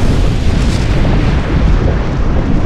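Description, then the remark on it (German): A volcano erupts with a loud, continuous roaring rumble, deep and dense throughout, heavy low boom with a gritty hiss on top and no voices. “öfters ziemlich laut war und gern startende Flugsaurier und explodierende Vulkane nachmachte.”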